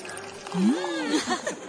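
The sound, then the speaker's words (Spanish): Local Yera sparkling wine pours steadily from a bottle into a glass, the gurgling tone rising as it fills, with a fizzy hiss over it, fairly quiet for under two seconds. “Camarero, una botella de espumoso de la tierra.”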